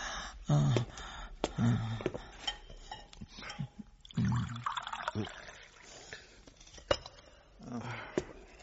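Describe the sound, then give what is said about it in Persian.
Water trickles and splashes as it is poured into a cup for someone to drink, with small clinks and intermittent bursts of liquid sound over several seconds, and faint voices in the background. “بیا اول با این جام آب گلویت تازه کن.”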